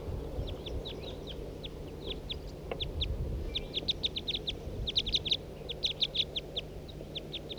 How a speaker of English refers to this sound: Start recording. Here comes a bird. 2, 3, 4 birds.